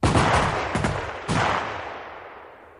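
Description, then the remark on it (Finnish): A loud volley of gunfire erupts at once in the execution of a woman taken to be shot, followed by two more sharp shots in quick succession, each blast ringing out and decaying into a fading echo with no voices present. “Asia oli niin hoidettu, muuta kuin tämän yhden naisen, joka ei halunnut muuttaa asuansa, ja hänet vietiin ammuttavaksi.”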